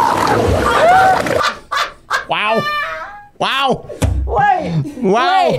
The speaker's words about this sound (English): Again, the sound of gray seals mating.